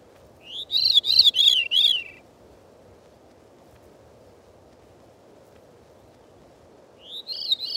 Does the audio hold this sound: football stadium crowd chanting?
no